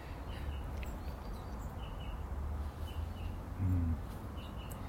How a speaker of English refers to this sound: However, that'll be a wasp. I'm not turning around to write my ear. Yeah, can you hear it? I'm sure you can.